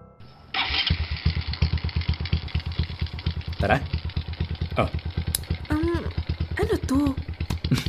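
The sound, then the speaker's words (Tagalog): A motorcycle engine kicks on and settles into a steady, loud putter, while a couple of people talk briefly over the running motor. “Di, I mean, pasasakayin mo ako sa motor?”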